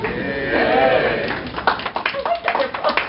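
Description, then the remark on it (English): An audience at a talk at DragonCon breaks into applause, a burst of sharp, irregular claps that follows a drawn-out vocal sound at the start. The clapping stays fairly loud and uneven through the end. “All right, lawyers never get applause, nor do professors.”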